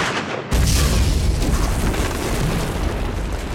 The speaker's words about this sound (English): The 9mm round penetrated the thin metal shell, and the overhang dissolved in a blinding flash, a clap of thunder, and a booming burst of hell-hued light. The other two grins detonated almost simultaneously.